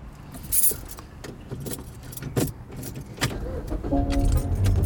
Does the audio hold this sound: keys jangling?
yes